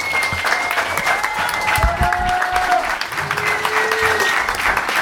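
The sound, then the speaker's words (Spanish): Steady, dense applause from an audience, called for to honour the women's self-defense group (mujeres autodefensa), fills the whole stretch at a fairly loud level, with a few thin whistle-like tones rising over the clapping. “Como dijeron nuestras compañeras, las mujeres autodefensa, para quien pido un fuerte aplauso esta mañana.”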